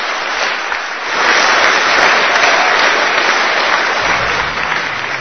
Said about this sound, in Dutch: En we geven eens even een applaus.